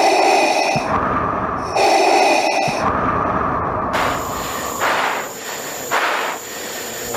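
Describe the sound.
Heavy, rasping breaths alternate in and out in a slow, steady rhythm, loud, a man on the radio breathing so that he sounds like Darth Vader, imitating the hiss of a mechanical respirator, with a hissy, airy texture in the later breaths.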